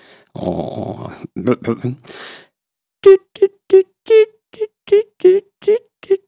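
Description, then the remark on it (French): A voice imitates the piping song queen honeybees sing around hatching, a call between queens heard beside the hive: after a brief rough, growly sound, about ten short, mid-pitched toots follow in a steady, morse-like rhythm, loud and clear. “Je vais essayer de vous faire le chant de la reine de bonheur le matin.”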